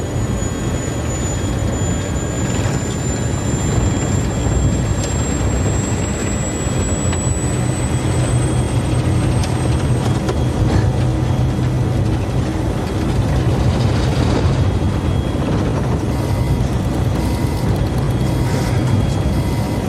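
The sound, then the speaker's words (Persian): A loud, steady airplane engine drone from an aircraft with a 14-kilometre flight ceiling, being run at its maximum capacity, fills the whole stretch, with a high whine slowly climbing in pitch early on and a constant deep rumble underneath, no voices. “قربان، قربان، سقف پرواز این هواپیما 14 کیلومتره. خودت هم میدونی که میتونه خیلی بیشتر ارتفاع بگیره.”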